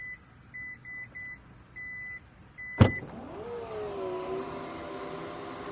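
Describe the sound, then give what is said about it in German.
A series of short, evenly spaced high beeps, then a sharp thunk as a Torres SUV's power tailgate unlatches by itself, sensing a person standing behind it with the key in their pocket, followed by the steady rising whir of its motor lifting the gate. No one speaks. “Coole Sache, der Torres erkennt, wenn ich hinter ihm stehe und den Schlüssel in der Tasche habe und wenn ich einige Zeit hinter der Klappe stehe, dann macht er die einfach auf, weil ich könnte ja drei Wasserkisten in den Händen halten.”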